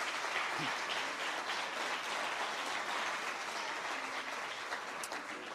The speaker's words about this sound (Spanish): Asociación Cultural Carrozas Oruña, en la categoría A presentarán Murasaki y en la categoría B Bollywood. Un aplauso para ellos.